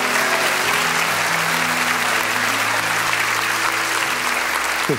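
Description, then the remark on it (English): An audience claps hands in worship in a steady, dense wash of applause that stays loud for the whole stretch, with low sustained piano tones humming underneath. “Just come on, clap your hands, all ye people.”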